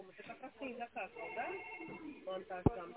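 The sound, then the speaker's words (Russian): A telephone ringback tone during an outgoing call to GK Bastion, over a narrow, phone-quality line, with a steady tone and melodic, voice-like harmonics running through it, ending in a brief sharp click. “Так, звоню в ГК «Бастион», а наша компания «Гранд Тендер».”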